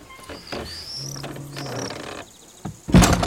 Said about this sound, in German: Mach die Tür hinter dir zu.